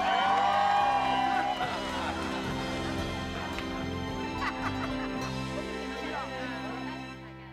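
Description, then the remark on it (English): A large crowd cheers loudly and steadily for several seconds, full of high-pitched whoops and shrieks layered over a constant roar, with a low steady hum underneath. “Well, cheer louder if you're having fun.”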